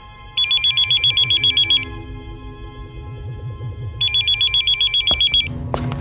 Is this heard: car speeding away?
no